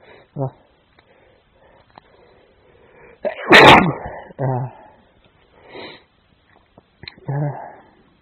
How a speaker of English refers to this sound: Trying to stop myself sneezing, and now I'm home and they've gone elsewhere, so it's all coming out.